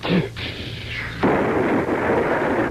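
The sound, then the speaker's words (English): A 4th of July firecracker goes off with a loud blast. A second burst follows about a second later, and a harsh crackling roar carries on after it. No one speaks. “I wonder if I lit this 4th of July firecracker a day early under the boss, that he'd give me a raise.”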